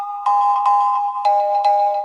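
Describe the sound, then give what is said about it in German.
A mobile phone's electronic message notification tone chimes repeatedly, four bright melodic bursts in a steady rhythm over a sustained tone, fairly loud with no talking. “Das würde ja nur stören, wenn immer jeder eine Nachricht kriegen würde und dann macht es lauter Geräusche während dem Unterricht.”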